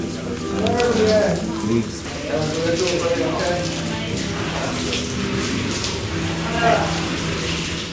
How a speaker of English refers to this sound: Okay, so I've had my cold shower.